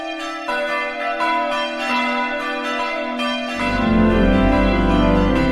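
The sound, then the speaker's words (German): Church bells peal steadily, ringing for the last time before a church's final service; their strikes overlap into a rich, ringing wash, and partway through a deeper, heavier bell joins and the sound grows fuller and louder. No voices are heard. “Das Läuten der Glocken zum letzten Mal und die letzte Predigt in einer Kirche.”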